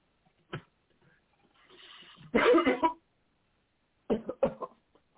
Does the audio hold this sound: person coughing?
yes